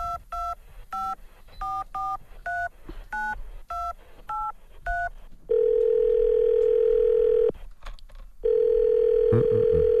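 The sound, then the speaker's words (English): A quick series of about a dozen touch-tone beeps as a phone number is dialed to call a man, followed by two long, steady ringback tones on the line with a brief pause between them. “Now let's call him.”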